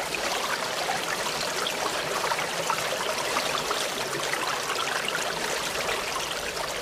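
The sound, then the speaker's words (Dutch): Water streams and trickles steadily throughout, a continuous babbling flow with no pauses and no voices. “Achter elkaar stromen ze naar de sloot. Door de sloot gaan ze naar de rivier en stromen harder en steeds harder tot ze in zee komen.”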